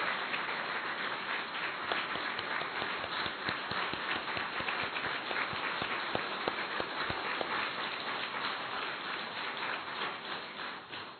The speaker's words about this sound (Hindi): एक बार जोरदार तालियां बजाएंगे सारे, अच्छी तरह से बजाएंगे।